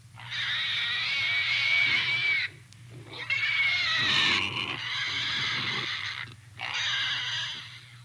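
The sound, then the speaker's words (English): A voice imitates a pig call: three loud, shrill squealing bursts in a row, with short pauses between them, over a steady low hum and no talking. “And there's the pig call.”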